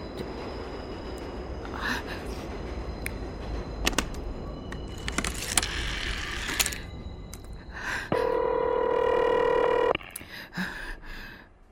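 Clicking sounds of a telephone being dialed over a rumbling, noisy background, followed by a single steady ringing tone on the line lasting about two seconds, loud; no one speaks.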